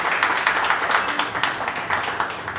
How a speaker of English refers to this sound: Also want to say, give yourselves a round of applause as well for you all investing to be here.